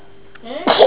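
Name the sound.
sneeze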